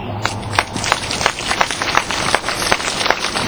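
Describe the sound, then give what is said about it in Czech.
A crowd in České Budějovice, Czech Republic, applauds steadily after a message is read out, with many overlapping hand claps forming a dense, crackling wash of sound that holds at an even loudness throughout, with no voices heard over it. “Já to Karimovi nechám vyřídit, jaký sklidil v Českých Budějovicích potlesk.”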